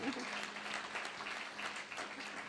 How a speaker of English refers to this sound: Do you think she needs a round of applause? I think she may.